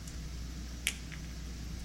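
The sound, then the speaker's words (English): A water bottle cap twists open with one sharp, crisp click, followed by a fainter tick, over a steady low background hum with no talking. “Okay, let me uncap the water.”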